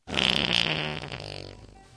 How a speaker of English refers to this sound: We'll be right back after this fart.